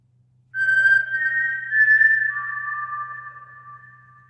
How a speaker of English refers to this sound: if you are familiar with that whistle, it is super famous, and it is the title of our podcast today, which is The Hunger Games